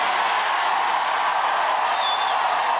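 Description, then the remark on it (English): A rowdy crowd in Kalamazoo cheers in one dense, unbroken roar of many voices, holding steady and loud throughout, with a brief high whistle cutting through near the end. “A rowdy crowd in Kalamazoo.”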